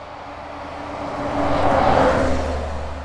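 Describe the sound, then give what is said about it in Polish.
A bus engine rumbles steadily on a ride to Jelitkowo, its low drone swelling louder as the bus accelerates, then easing slightly toward the end. No voices, just continuous engine and road noise. “Pojechałam autobusem do Jelitkowa, tak jak radziła Majka.”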